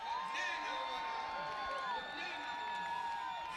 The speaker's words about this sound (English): So, well, yesterday I went to Hariri's residence where he was speaking for the first time, and there was a huge crowd gathered. Here's what they sounded like.